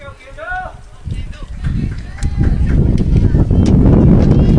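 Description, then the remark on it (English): A sudden 45 mile-per-hour gust of wind buffets the microphone at a ballgame, a deep rumbling roar that swells within a second and stays loud and blustery to the end, with a brief voice just before it hits. “Well, we not had much wind, and all of a sudden we get a nice little gust. 45 mile an hour gust all at once.”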